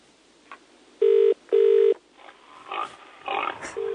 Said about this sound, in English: Quite a novel introduction while waiting for the phone to answer. Pre-recorded sounds of pigs making quite a din, squealing.